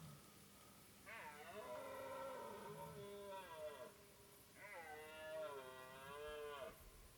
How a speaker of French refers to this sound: Donc à mon avis, des gens ont dû aller écouter le brame à pied.